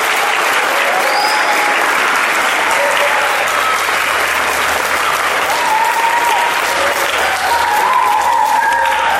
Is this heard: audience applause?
yes